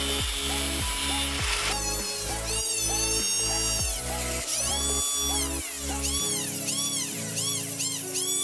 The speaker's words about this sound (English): enlarge the cuts we created earlier. Repeat the cutting process with the new marks and also enlarge them with a drill bit.